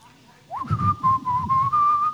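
A person whistles a short, cheerful tune up close, a steady clear tone stepping gently up and down in pitch for about two seconds, with some low rumbling noise underneath.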